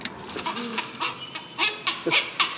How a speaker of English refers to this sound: Night herons. You hear a night heron.